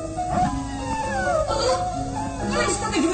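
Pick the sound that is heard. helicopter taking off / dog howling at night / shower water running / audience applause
dog howling at night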